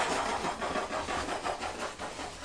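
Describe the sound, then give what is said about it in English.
A voice imitates a fire helicopter with a steady, breathy whirring noise that pulses in quick rhythmic beats, sustained without pause and without any spoken words. “That is the sort of sound a helicopter makes, isn't it?”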